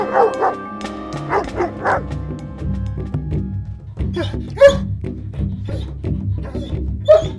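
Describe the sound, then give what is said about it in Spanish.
A dog barks in short, sharp bursts, several quick yips early on and then a couple of louder barks later, over a steady musical background. “Y el perro gana y continúa su camino hacia el tesoro.”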